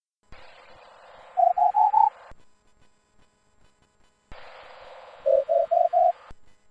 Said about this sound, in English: Now I hear four distinct beeps here, indicating that the charger itself is fully charged, because I know that there are four little lights here that come on when the thing is fully charged up.